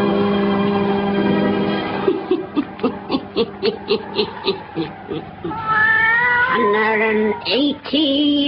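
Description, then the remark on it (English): A black cat, Satan, the wise black cat of The Witch's Tale, meows and yowls, starting with a low drawn-out cry, then a quick run of short pulsing mews, ending in long rising, wavering caterwauls. “Weird, blood-chilling tales told by old Nancy, the Witch of Salem, and Satan, the wise black cat.”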